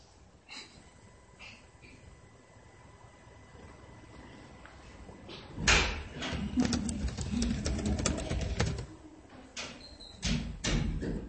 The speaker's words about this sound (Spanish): Abre la puerta porque la señal no se va.